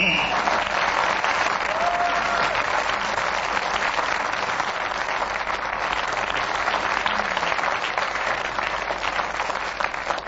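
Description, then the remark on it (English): The studio audience of the panel show Just a Minute applauds steadily for about ten seconds, a dense, even wash of clapping that stays loud throughout with no voices breaking through. “Well, there's no racket like Just a Minute, and when the audience here make a racket like they did, we know that we are winning, and we do hope you've enjoyed yourself.”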